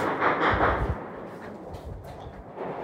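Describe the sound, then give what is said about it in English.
A cluster of muffled gunshot bursts with deep low thumps early on, followed by scattered sharper cracks over a steady rumbling background; no one speaks. “Hey, there's like a lot of gunfire happening right now. I can hear that.”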